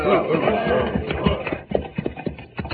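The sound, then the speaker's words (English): Horses' hooves clip-clop in an uneven, plodding rhythm, growing more distinct toward the end, with muffled voices and shuffling mixed in underneath. “Our horses need water, señor.”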